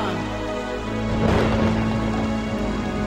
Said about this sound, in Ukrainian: Я не чекав, що піде злива.